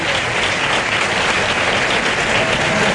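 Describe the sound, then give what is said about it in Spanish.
A bullring crowd gives a loud ovation after the bull collapses, as some handkerchiefs begin to appear; dense clapping from many hands blends into a steady, hissing roar that holds unbroken for the whole three seconds, with no voices standing out. “Bueno, pues bueno, la ovación y empiezan a aflorar algunos pañuelos.”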